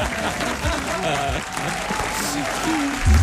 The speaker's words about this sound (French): Applaudissements pour notre ami.